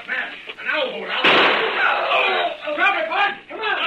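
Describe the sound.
A single cannon shot booms out suddenly, a loud blast with a short rumbling tail, while voices talk before and after it.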